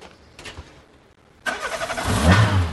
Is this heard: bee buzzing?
no